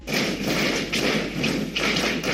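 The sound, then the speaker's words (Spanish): Snow falling after a storm from the roofs of an apartment block in Albacete onto cars parked in the street: a dense, continuous rush of soft thuds and taps, swelling into heavier bursts a couple of times, with no voices. “Esto que escuchas es la nieve cayendo desde los tejados de un bloque de viviendas y golpeando en los coches aparcados en la calle.”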